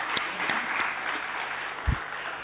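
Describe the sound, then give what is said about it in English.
A crowd claps steadily for the presenters at the end of a session, in a dense, continuous wash of applause, with a few sharper individual claps standing out and one low thump near the end. “So let us give a big applause to them.”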